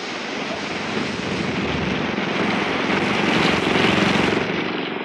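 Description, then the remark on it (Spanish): A powerful Coast Guard motor launch at sea roars steadily and loudly, its low throbbing churn mixed with a broad hiss like rushing water and wind, swelling slightly toward the end with no voices. “Desde la cubierta de la formidable lancha de la Guardia Costera, Calimán y el pequeño Solín acechan el horizonte del mar.”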